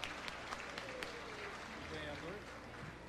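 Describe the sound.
Steady applause from an audience at an award ceremony as the sponsors are called up to the stage: a dense wash of many hands clapping at moderate loudness, with a few sharper claps standing out and voices murmuring underneath.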